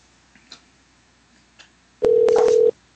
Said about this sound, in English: Here we go. Getting you on the phone, dialing away for Mama Gina.